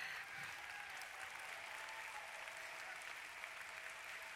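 An audience claps hands together in a steady, dense wash of applause that holds at an even loudness for several seconds, with no voices standing out above it.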